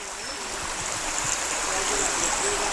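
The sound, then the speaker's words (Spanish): Spring water gushes steadily from a fountain in a small hillfort village (castro), a continuous bright splashing rush that holds an even level throughout, with faint voices barely audible underneath. “Esta fuente que posiblemente haya dado de beber durante siglos a los habitantes de este pequeño castro, ¿no?”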